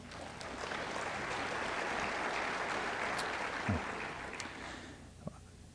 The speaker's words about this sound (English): I know that wasn't a pervasive clap, I could tell. It was sort of weak.